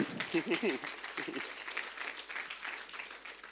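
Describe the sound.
An audience claps steadily in a dense, crackling wash of applause lasting several seconds for a man dressed up as Jesus, with a voice speaking briefly over it at the start.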